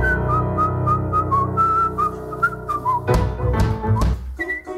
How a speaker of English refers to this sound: Second song, name this song with whistling.